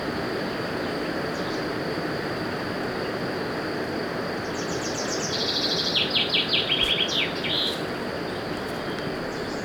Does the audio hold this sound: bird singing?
yes